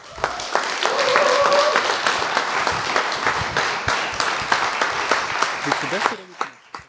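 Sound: loud audience applause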